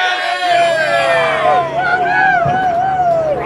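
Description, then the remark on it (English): A loud crowd in pit lane at Bathurst cheers and whoops after Craig Lowndes' race win, many voices overlapping in excited, rising shouts that stay steady throughout with a low engine-like hum underneath. “So there it is, our winners today, Craig Lowndes, and you heard the crowd in pit lane there, absolutely over the moon.”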